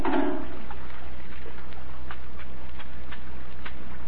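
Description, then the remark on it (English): Soapy water made with kitchen soap sloshes in a short, full splash while a car is being washed, then settles into scattered drips and small splats over a low steady background hum, with no one talking. “Come on now, hand me that soapy water.”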